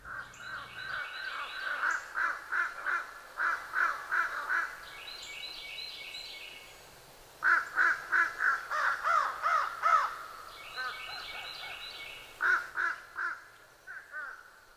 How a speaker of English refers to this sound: since American crows are bigger and live along the buffalo all year, I assume they rule the roost, so to speak. But all this back and forth crow talk makes me think the big boys must make room with spring arrival of fish crows in the Buffalo Valley.